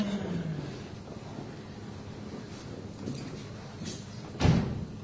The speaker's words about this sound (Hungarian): A dolgozó szoba ajtaja megint nyitva.